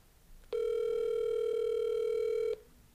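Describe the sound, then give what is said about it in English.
A single steady ringback tone from an outgoing phone call placed live from a work phone, one mid-pitched electronic buzz lasting about two seconds, then it cuts off into quiet. No one speaks. “We're doing a live call into you right now.”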